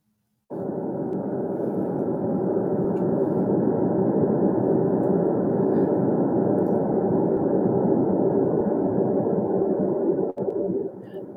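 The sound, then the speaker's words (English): A steady, unbroken wash of green noise played by an Amazon Alexa smart speaker, soft and mid-pitched like a gentle whooshing hum, starting abruptly and holding even in loudness before cutting off near the end. “I'm going to move this Alexa over here and I'm going to turn her up and I'm going to have her play us some green noise so we can hear what it sounds like.”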